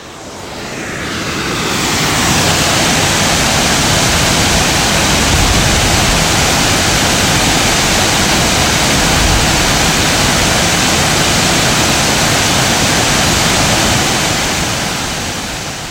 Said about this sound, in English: We reach another set of waterfalls not much further up the trail. Up ahead after the set of falls, we can see the waterfall at the head of the river.